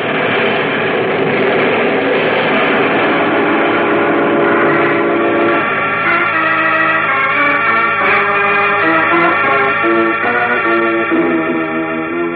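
The Metropolis Railroad Station with trains: a loud, continuous blend of sustained whistle-like tones and rumbling, with the pitches shifting and layering partway through. No one speaks.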